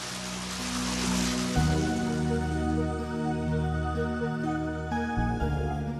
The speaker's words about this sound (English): Water. So familiar the sound of its sparkling play here in Rome's streets and squares, in the great fountains of its master artists and architects, in its friendly beaky fontanelle, where the water runs and runs.